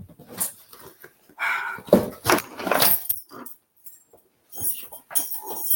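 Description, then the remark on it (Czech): Keys jangle and clink in short, irregular bursts as someone rummages through them searching for them, with brief pauses and soft handling noises between. “Já jsem totiž zapomněla klíče a počítala jsem si ho a samozřejmě, jak je mým dobrým zvykem, zapomněla jsem je vrátit.”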